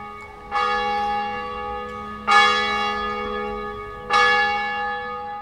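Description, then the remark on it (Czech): Church bells in the small town of Beceka strike noon in a slow, steady rhythm, three loud resonant clangs about two seconds apart, each ringing on with a long shimmering decay that overlaps the next. No one speaks. “Zvony v městečku Beceka právě odbíjejí poledne.”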